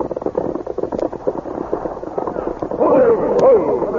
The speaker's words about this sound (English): They heard gunshots. The fight has started.